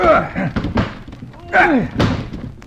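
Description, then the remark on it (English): Someone rams a shoulder into a locked door, trying to smash it in, in a series of heavy, irregular, loud thuds, with straining voices between the blows. “Quick. Let's smash this door.”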